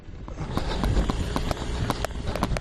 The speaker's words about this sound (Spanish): Ahí está Cristian, corriendo hacia atrás. La imagen es para verla, desde luego. 1000 metros hacia atrás, que hizo en 2 minutos 54 segundos.